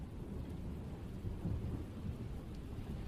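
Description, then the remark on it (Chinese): Steady rain falls with a low, rolling rumble of thunder swelling in the middle, a continuous dense wash of sound at moderate volume with no voices. “哎，不知不觉就下雨了呢。”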